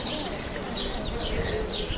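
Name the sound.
birds singing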